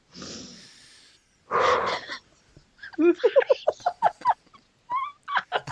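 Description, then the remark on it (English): A person imitates a monkey: two breathy huffs, then a rapid run of loud, rising hooting yelps and a few final chattering calls, with no words spoken. “I just sounded like a monkey.”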